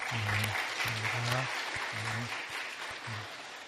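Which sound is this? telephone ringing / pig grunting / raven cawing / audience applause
audience applause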